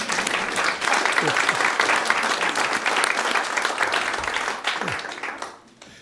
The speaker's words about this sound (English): I was thinking about a nice round of applause